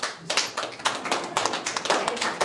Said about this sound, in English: And suddenly, a smattering of applause.